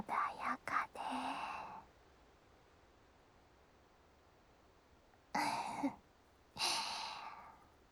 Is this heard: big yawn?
yes